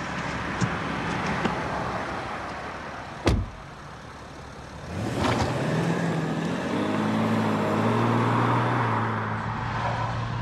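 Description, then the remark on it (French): A car door thuds shut, then the engine revs up and the car pulls away, settling into a steady, muffled interior drone with a faint rising whine as it accelerates. “En général, c'est pas le genre de voiture qui s'arrête, c'est ça?”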